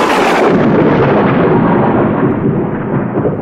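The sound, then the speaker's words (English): A loud thunder crash with lightning bursts in all at once, then rolls on as a dense, rumbling roar that slowly loses its brightness over a few seconds. No voices. “Lightning flashed and smoke covered Moses.”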